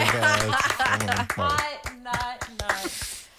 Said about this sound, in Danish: Og det er deres dag i dag. Mm-hmm. Jamen, så dem vil jeg gerne bestå, skal vi så ikke give dem et bifald?